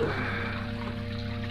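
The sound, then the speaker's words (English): Water from a fountain trickles steadily into a stone basin, a continuous, even splashing at moderate volume that neither builds nor fades, with no voices. “Lay him down on the edge of the fountain.”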